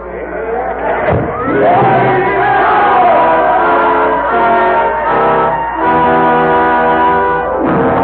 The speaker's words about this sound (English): Sidney Carton has found his destiny, and the roar of the crowd fades into the silence of 150 years ago.